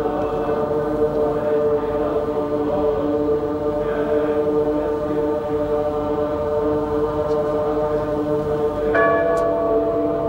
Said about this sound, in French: Quelle ambiance sonore avec un crescendo, les cloches, le chant qui monte.